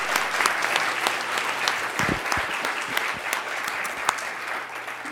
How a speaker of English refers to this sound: please join me in a round of applause for this really great conversation.